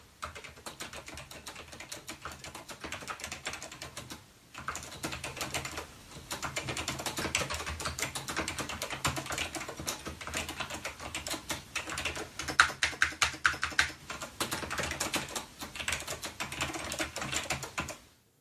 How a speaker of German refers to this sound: Ja, bevor ich das vergesse. Habe ich eine kleine Soundaufnahme von dem Keyboard gemacht.